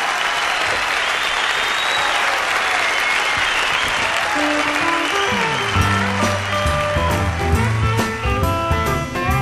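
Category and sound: crowd, audience applause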